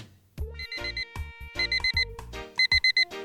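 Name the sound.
alarm clock ringing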